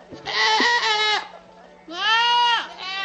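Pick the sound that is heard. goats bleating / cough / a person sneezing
goats bleating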